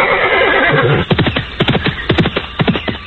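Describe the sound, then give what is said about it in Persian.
Two horses, one white and one brown with long manes, neigh loudly on a large green plain: a long whinny followed by a rapid series of harsh, broken snorting calls, with hooves stamping and clattering underneath; no one speaks. “در دشت بزرگ بی سر و بی پا، سبز و با تراوت، دو اسب سفید و نسواری با یال‌های دراز و زیبا با یک دیگر آمیخته سم می‌کوبند و شیره می‌کشند.”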